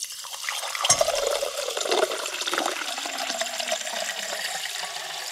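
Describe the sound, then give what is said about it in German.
Sparkling water is poured into a large flower vase used as a drinking glass with a steady splash and a bright, fizzing hiss. The hiss lingers clear for several seconds, with no talking. “Da war es das Zischen. Sprudelwasser.”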